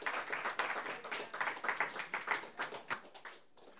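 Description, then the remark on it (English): Steady audience applause: a dense patter of many hands clapping at a brisk, uneven rhythm, moderately loud throughout before thinning out and tapering off at the end. “Little more applause.”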